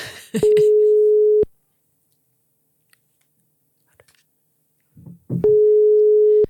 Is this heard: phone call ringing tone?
yes